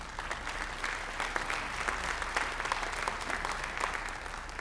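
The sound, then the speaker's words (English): A scattered round of applause from a modest church audience during a service, steady clapping spread across a room, fairly subdued, with no voices standing out. “That's even a bigger smattering of applause than first service.”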